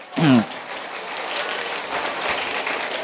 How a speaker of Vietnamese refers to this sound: Cho một tràng vỗ tay thật là lớn nào.